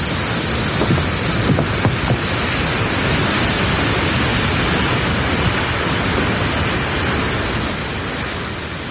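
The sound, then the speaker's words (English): A loud, unbroken roar of water pouring over a weir on the River Thames, dense and steady throughout, easing down slightly near the end. No voices are heard. “The bullet catches me in the arm before the river snatches us. The weir swallows all.”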